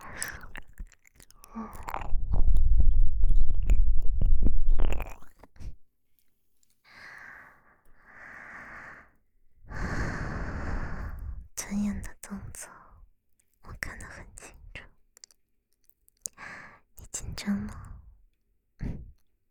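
A writing pen is handled with rustling, scraping sounds and a few soft clicks, loudest in the first few seconds, then gives way to quieter breathy whispering with brief pauses.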